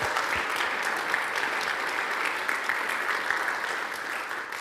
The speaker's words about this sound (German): Dürfen wir uns mal selber alle miteinander einen Applaus geben oder euch?